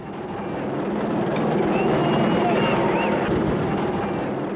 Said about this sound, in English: As police helicopters hover over the city, a Nigerian looting victim says South Africa's the richest country on the continent.